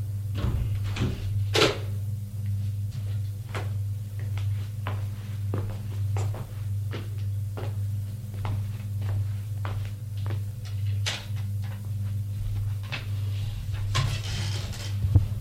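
An office door is released by a button press and opened, then a series of sharp, evenly spaced footsteps as someone walks in, all over a steady low electrical hum, with no talking.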